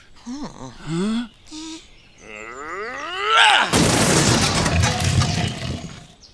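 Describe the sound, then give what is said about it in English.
A few short vocal cries and a rising whistling tone build up, then a loud explosion bursts in and sustains as a roaring, crackling rumble until the end. “Watch out! There's going to be an explosion!”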